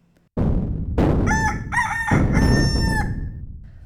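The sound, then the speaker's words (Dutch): A rooster crows loudly, one drawn-out cock-a-doodle-doo lasting a couple of seconds, rising out of a dense, noisy commotion of a donkey braying, a dog barking and a cat meowing all at once that starts abruptly. “Balken, blaffen, miauwen, kraaien.”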